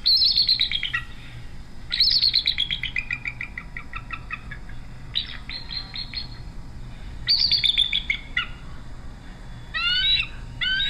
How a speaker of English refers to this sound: And that was a seagull.